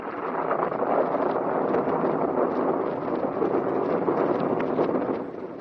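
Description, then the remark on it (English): A thunderstorm roars steadily, with loud rushing wind and a dense, continuous rumble that holds for several seconds before easing slightly at the end. No one speaks. “Anyway, here comes the storm.”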